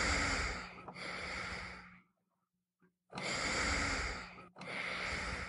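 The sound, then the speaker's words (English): A portable ventilator, a breathing machine behind the seat of a motorized wheelchair, whooshes in steady cycles: two long, loud breathy rushes of air separated by a pause of near silence, with a low mechanical hum running underneath. “The machine's whoosh punctuates his presence in the room.”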